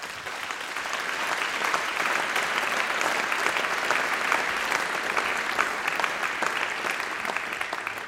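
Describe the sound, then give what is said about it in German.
Sustained applause from an audience at an autumn concert, a dense steady clatter of many hands clapping that swells in quickly and holds loud for the full eight seconds, with no talking. “Und ich darf einmal sagen, das ist auf alle Fälle schon mal ein großer Applaus wert, dass die das aufgezogen haben und so bärig hergerichtet haben.”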